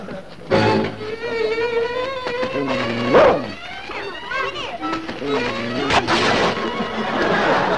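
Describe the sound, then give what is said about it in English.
A dog barks and yelps through a noisy scuffle, with several sharp crashes and thumps breaking through and excited voices mixed in, all fairly loud. “Yeah, I guess dogs are tougher on pants and nails.”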